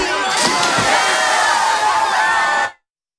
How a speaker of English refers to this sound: Into a pool fully dressed, everyone cheers them on and jumps in too.